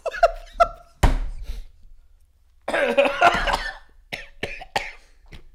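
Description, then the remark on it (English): Someone coughs and splutters after choking on water, in a series of harsh, irregular bursts, with a loud fit in the middle and a few sharp, wet coughs trailing off afterward. No one speaks. “I choked on it.”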